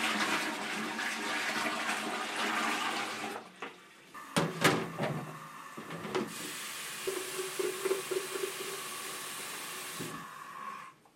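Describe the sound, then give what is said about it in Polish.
Water rushes loudly through pipes for a few seconds, then stops with a few sharp clunks and knocks before a steadier hiss of running water returns, as the plumbing is tested for leaks after a repair. No one speaks. “Po wszystkim oczywiście musimy sprawdzić szczelność. Czy nigdzie nie cieknie woda, czy niczego po drodze nie popsuliśmy.”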